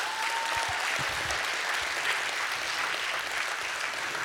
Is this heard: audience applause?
yes